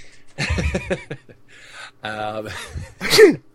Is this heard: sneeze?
yes